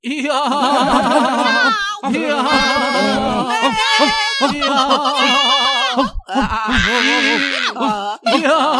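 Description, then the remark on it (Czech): Goats bleat loudly, their quavering cries overlapping almost continuously with only brief gaps, as if a whole barnyard were calling out at once. “Mína s Rekem společně povalili pošťáka nedobrotu do bláta a dali se do takového štěkotu a mňoukání, až vzbudili stáje, chlívek i kůrník a ostatní zvířata se snad zleknutí přidala k jejich křiku.”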